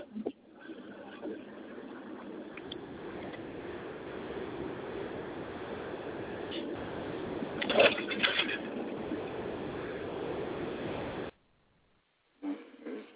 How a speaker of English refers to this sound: Well, it sounds like they're driving with the window down.